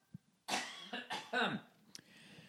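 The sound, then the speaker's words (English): Loud coughing: a harsh hacking burst followed by two more rough coughs in quick succession, with a short pause and a faint click before and after. “It's fucking cough, man.”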